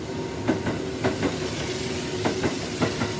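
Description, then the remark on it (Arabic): A train rolls steadily along the rails with a continuous low rumble and a faint humming tone, broken by paired clacks of the wheels passing over track joints at irregular intervals. “ركب القطر وقعد يمسح العرق اللي على وشه”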